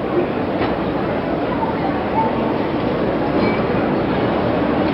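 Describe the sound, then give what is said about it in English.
Senator Robert Kennedy's funeral train grinds along toward a stop, a steady rumble of cars and wheels holding an even loudness throughout, with a few faint brief metallic squeals. “The last train ride is over. The train has stopped.”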